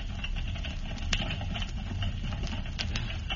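Horses pull wagons along a street: a steady, heavy low rumble of wheels with scattered sharp clops and clicks of hooves. No voices are heard.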